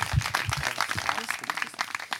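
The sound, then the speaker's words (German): Audience applause for a woman: a dense patter of many hands clapping at a steady, moderate level for a couple of seconds, with no one speaking over it. “Applaus für Christine.”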